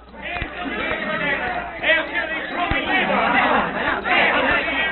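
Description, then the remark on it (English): A dense crowd of angry natives surrounding a car in a road, many overlapping voices shouting and clamouring angrily, loud, with a few sharp thuds cutting through the continuous agitated babble. “they discover the car and Barton surrounded by a crowd of angry natives”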